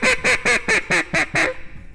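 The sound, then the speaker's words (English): Seven rapid, evenly spaced quacks from a competition-style duck call, loud, each a nasal buzzy burst, ending abruptly with a brief fade into quiet. “Sounds like a duck, doesn't it?”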